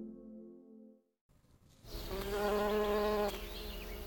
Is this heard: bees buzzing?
yes